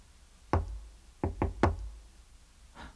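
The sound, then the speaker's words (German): Knocking on the door of room 2.14 at the end of a long, deserted corridor: a single rap, a short pause, then three quick knocks, followed by a fainter tap at the end. The knocks are crisp, with no one speaking. “Hier ist es. Zimmer 2.14. Ich klopfe mal, ja?”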